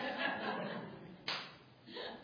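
An audience, asked to clap, claps unevenly, the claps scattered and out of sync, with a sharper burst partway through and some light chuckling mixed in. Moderately quiet.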